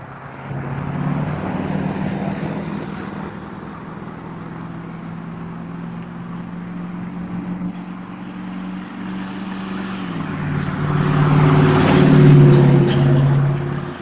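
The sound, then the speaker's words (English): Steady low engine rumble of heavy trucks passing, droning continuously and swelling louder toward the end as one rolls closer, with no voices. “trucks as well.”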